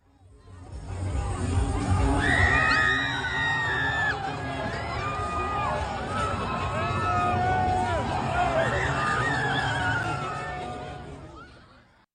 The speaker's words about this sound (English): The woman screaming is like while they're flipping the car